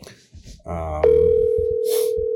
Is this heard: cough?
no